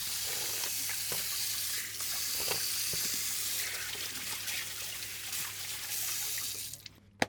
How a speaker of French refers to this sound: Voilà, ah, de l'eau chaude. Trop chaude, l'eau est trop chaude. Donc, on va faire de l'eau un peu tiède.